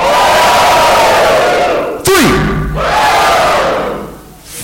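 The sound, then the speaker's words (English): A large crowd at a ticket-number prize draw yells and screams loudly and continuously as numbers are called, the roar swelling and dipping in waves, broken midway by a sharp burst with a quick falling tone before the shouting surges again. “So I want everyone to make some noise per number we get yelled out that you have, and then we're going to whittle it down to the last person screaming because they have the last number.”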